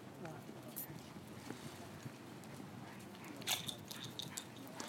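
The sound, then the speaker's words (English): Low, churning water from a passing boat's wake washes in steadily against a shore, mixed with wind rumble, with a few brief splashy clicks near the end. No one speaks. “Might be able to hear on the recording the wash coming in from a boat that's gone out.”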